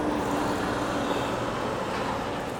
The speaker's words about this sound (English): Man, there are a lot of cars.